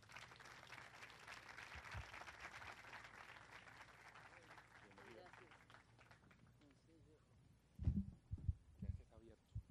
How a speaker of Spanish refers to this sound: Recibamos todos con un fuerte aplauso a Diana Uribe.